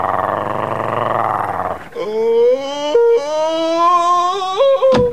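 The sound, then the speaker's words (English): A dog growls with a low, rough rumble for a couple of seconds, then breaks into loud, pitched snarling and whining that rises and wavers. “I've just been bitten by this mad dog.”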